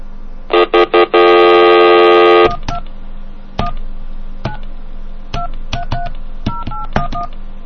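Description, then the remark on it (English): Three short touch-tone beeps followed by a long sustained dual-tone, then a quick series of separate dialing tones punched out at an irregular pace as a phone number with area code 219 is dialed, clear with no talking. “let's try this number Mute gave me real quick”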